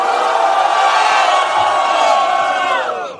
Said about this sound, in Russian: Эй, все, кто знает меня, ну-ка дайте овации, чтобы они поняли, что за один батл у меня отпала надобность представляться.